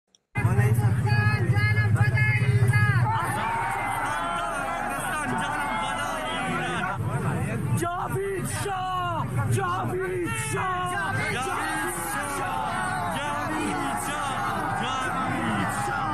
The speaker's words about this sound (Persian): بله، و شعار جاوید شاه رو شنیدید که در زاهدان.